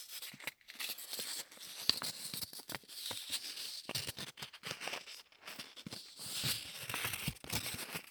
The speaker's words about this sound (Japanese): 終わったガムテープもいい音。いい音だな。というわけで今回お送りしたのは、ガムテープでセーターなんかをペタペタとする音でした。